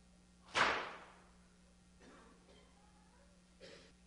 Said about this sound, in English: Are you hearing whips cracking on the back of the Savior?